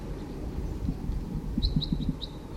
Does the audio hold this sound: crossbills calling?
yes